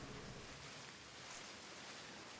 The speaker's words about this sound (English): You open your eyes to the gentle chime of branches swaying back and forth. The water and the waves can be heard nearby.